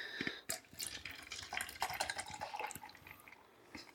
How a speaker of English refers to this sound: Listen to that pour. Yeah. Why'd you give me this much, man?